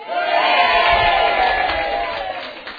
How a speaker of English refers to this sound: Okay, church, now it's time to cheer.